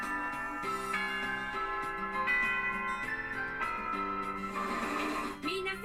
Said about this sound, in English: The teacher comes in as the bell rings.